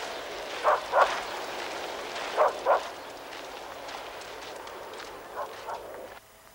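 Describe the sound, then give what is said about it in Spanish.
A dog barks in quick pairs while chasing a departing van, three double-barks spread over several seconds, the last pair fainter, over a steady hiss of background noise. “Perseguida por el perro, Brenda parte en su furgoneta.”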